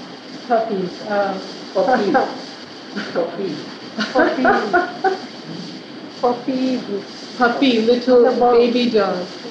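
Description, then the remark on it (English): A human voice imitates puppies and dogs with a series of short, high yips and barks in uneven bursts, fairly loud, with brief pauses between clusters. “Puppy, little baby dogs.”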